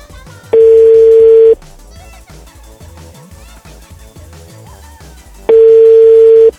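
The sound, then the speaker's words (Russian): Two long, steady telephone tones, each about a second, separated by a pause of several seconds, sounding loud and clear over a low, busy background of music or room noise. “А, вот, хоть гудки есть, и то хорошо.”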